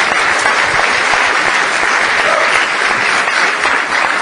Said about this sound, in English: But first of all, I want to give you a round of applause and thank you so much. Thanks.